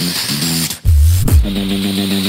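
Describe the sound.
A beatboxer's deep, buzzy throat bass hums beneath a hissing, static-like filter sound. Combined, they give a lower tone along with a static tone, with the low tone sliding and pulsing for a couple of seconds, loud.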